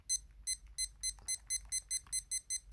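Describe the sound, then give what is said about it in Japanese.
A rapid series of about ten short, high-pitched electronic beeps from an alarm timer being set, evenly spaced, with faint handling noise between them and no talking. “で、ちょっとアラームを。”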